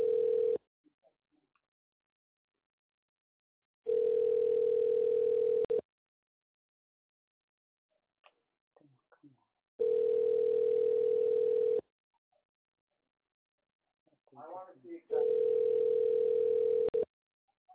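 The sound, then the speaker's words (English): A phone ringback tone repeats four times, each steady buzzing ring lasting about two seconds with longer silent pauses between, clear, with only faint scattered noises in the gaps; the called person does not answer. “Damn, see, she's not even answering.”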